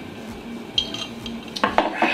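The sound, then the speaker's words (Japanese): Glasses clink together in a toast: one bright tap, then a quick cluster of ringing clinks, with no voices over them. “まあとりあえずはい、乾杯、イエーイ。”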